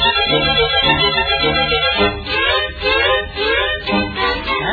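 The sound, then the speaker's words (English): Several cats meow loudly and repeatedly, their cries overlapping in a steady, insistent chorus, with no talking. “I picked up a cat on 7th Street. I have a cat. Maybe this one's yours.”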